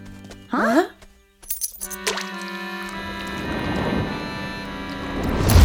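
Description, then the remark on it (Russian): A short vocal sound, then sharp metallic clinks as coins drop, followed by a long ringing, rattling cascade of coins that gradually swells louder toward the end. “наши монетки! Зачем ты это сделал?”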